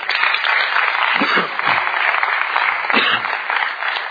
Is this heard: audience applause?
yes